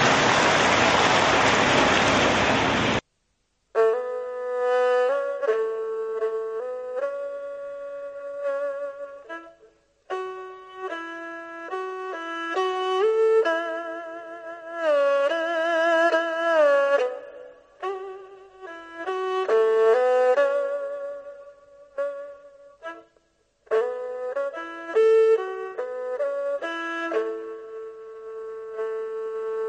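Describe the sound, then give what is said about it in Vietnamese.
A loud burst of applause from an audience of young people lasting about three seconds, cut off abruptly and followed by steady, melodic instrumental music with sustained notes. “Các bạn trẻ hãy dành một tràng pháo tay thật là lớn.”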